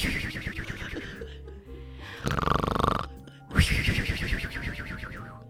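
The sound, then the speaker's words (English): A person mimics a woman's loud snoring, a few rough, rattling breaths with a nasal whistle in between, fairly loud, with no other talking. “So, yeah, she does tend to snore quite loudly.”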